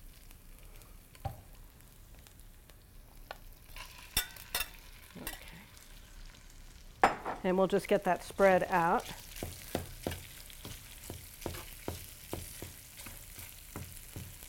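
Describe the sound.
Almost fully cooked chicken pieces sizzle steadily in a hot pan while a spatula scrapes and stirs them, with a burst of louder clattering in the middle and a voice speaking briefly over the frying.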